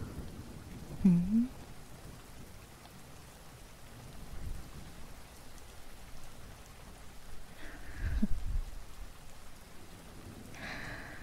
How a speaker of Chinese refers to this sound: 听着这雷声，告诉我，以前小的时候每一次打雷的时候，是不是都是由我，你口中的姐姐，温柔地抱着你，帮你捂住耳朵，哄着你的呀？